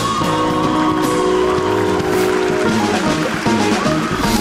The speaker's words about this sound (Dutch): Daar volgde ook nog een oorverdovend applaus.